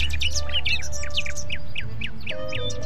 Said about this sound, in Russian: И соловей стал петь дубу. И пение его напоминало журчание воды, льющейся из серебряного кувшина.